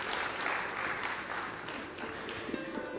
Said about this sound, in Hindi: एक बार हम सभी जोरदार तालियों से भाई जी का स्वागत करते हैं, स्वागत करते हैं, स्वागत करते हैं।